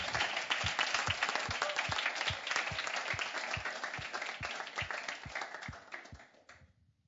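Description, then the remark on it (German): A church audience applauds steadily for several seconds after a prayer, giving applause to God: a dense wash of clapping over regular low thuds, then the sound thins and fades out at the end. “So, lass uns einfach gerade einen Applaus geben.”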